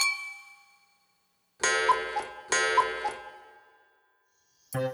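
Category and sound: household object, cups clinking together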